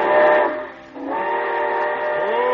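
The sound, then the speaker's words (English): A loud steam train whistle sounds before departure, as the Summer Show Train is ready to pull out: two sustained, chord-like blasts, the first dipping briefly before the second resumes steadily, with a faint hiss of steam underneath. “Well, it looks as though we're ready to pull out, and so until next week, goodbye.”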